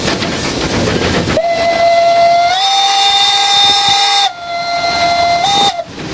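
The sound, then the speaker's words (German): A steam locomotive whistle blows loudly in a long, steady shriek, its pitch rising slightly partway through, then breaks off and sounds again briefly before fading into hissing steam and train noise, announcing the train's arrival. “Ankündigen, dass wir jetzt kommen. Und wie macht man das?”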